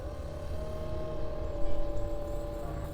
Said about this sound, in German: Ein Flugzeug am Himmel. Da fliegt einer.